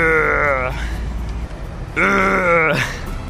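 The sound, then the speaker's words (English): A person imitates a kangaroo's grunt with two drawn-out, throaty groaning calls separated by a short pause, voiced fairly loud with no other talk. “What do you imagine it sounds like? A horse, for one thing. It'd probably do something like...”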